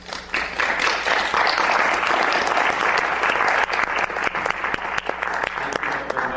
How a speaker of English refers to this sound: Hear, hear. Yay. I love hearing clapping. I don't know why.